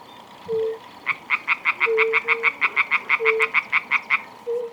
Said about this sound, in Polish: To wszystko przyczynia się do tego, że tych płazów mamy coraz mniej, że coraz trudniej można je znaleźć i usłyszeć ich rechot. Przykładem jest ta rzekotka jedyna dzisiaj i te kilka kumaków.